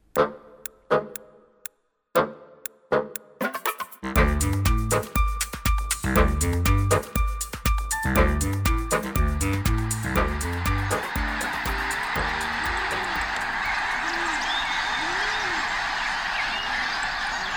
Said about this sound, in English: The sound of winged dinosaurs during migration. Birds are the only dinosaurs that managed to survive the mass extinction of 65 million years ago that did in so many of the other species on Earth.